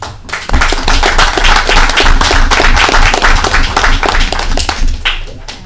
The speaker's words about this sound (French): Et j'aimerais lui donner, avec les membres du conseil, une bonne main d'applaudissements, s'il vous plaît.